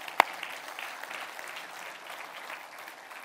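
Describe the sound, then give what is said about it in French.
An audience claps steadily throughout, a dense patter of many hands at moderate volume, opening with one sharp, louder clap. “On peut s'applaudir, s'il vous plaît, vraiment.”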